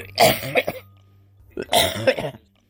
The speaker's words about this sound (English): I have a bad cough.